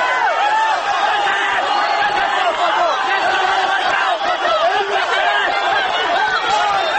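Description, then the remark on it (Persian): A large crowd of protesters shouts and yells without pause in the city streets after Mahmoud Ahmadinejad was congratulated as election winner, some crying out under the batons of plainclothes agents; dozens of raised voices overlap into a loud, continuous roar with no single speaker standing out. “به سمت برخی از این معترضان در خیابان شلیک می شود و جمعی دیگر از آنها زیر باتوم های لباس شخصی ها فریاد می کشند.”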